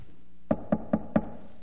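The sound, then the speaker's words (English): Four sharp knocks on a door in a quick, evenly spaced sequence, clear, with no talking. “Son, go open the door. Someone's at the door.”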